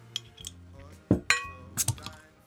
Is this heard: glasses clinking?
yes